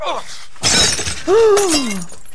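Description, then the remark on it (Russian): A sudden, loud crash of a cup shattering with clattering pieces as a cake falls and fruit spills, followed right away by a voice crying out in a long, falling exclamation. “И торт упал. И чашку разбила.”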